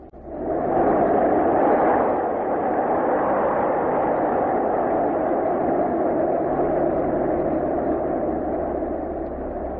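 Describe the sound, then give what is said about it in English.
A loud, steady roar of an airplane engine mixed with rushing wind through the open doorway of a plane climbing after takeoff, its door removed for parachute jumping, continuous and unbroken for the whole stretch, with a low droning hum underneath and no voices. “Without the door, the engine noise and the wind are very loud.”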